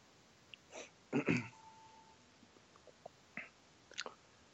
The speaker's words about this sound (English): Sorry, I was muted. I was chewing something. I shut my mic off.